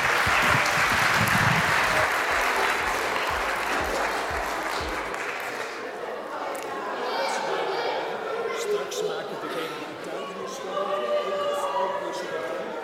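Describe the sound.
Loud, dense applause from an audience fills the first few seconds, then thins into scattered clapping with crowd murmur and voices underneath.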